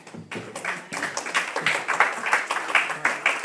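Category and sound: crowd, audience clapping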